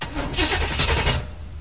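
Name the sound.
car engine starting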